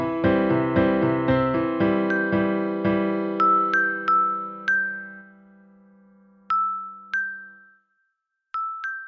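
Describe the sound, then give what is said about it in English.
High, silvery bells ring out in a quick cascade of overlapping strikes, then slow to a few spaced, bright single tones that shimmer and fade, with no voices. “There it was again, a high, silvery bell sound.”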